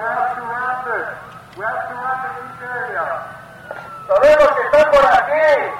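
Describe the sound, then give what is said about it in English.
A police siren wails in repeated rising-and-falling sweeps, fairly loud, during a staged night-time fake border crossing for a tourist group at a recreational park, while loud shouting voices of the fake border patrol yelling threats break in over it toward the end. “For 3 hours or so this night, the tourist group endured sirens, dogs, chases, and the fake border patrol yelling threats.”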